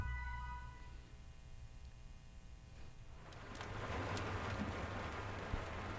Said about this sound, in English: All right, go ahead and switch to some, we'll do a crackling fireplace today. I think that sounds pretty peaceful.